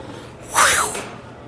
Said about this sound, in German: Eine Katze faucht. Ja, eine Katze faucht genau so, wenn man sie ärgert. Ja, es hört sich an wie eine Katze. Aber wie eine sehr, sehr große Katze.